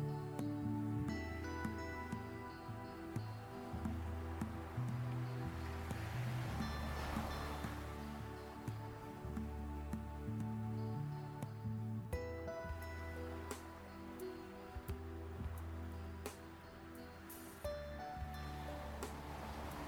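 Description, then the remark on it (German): Ocean waves wash steadily onto a shore, a soft continuous surf rising and falling beneath sustained, calm musical tones; no one speaks. “Über dir das Blau des Himmels und in deinen Ohren das beruhigende Geräusch der Wellen.”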